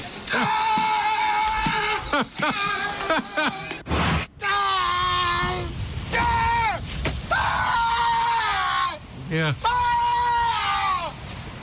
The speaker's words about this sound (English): There's a family that recorded a sea lion, and they noticed that the sea lion's yell sounds just like Tom Hanks.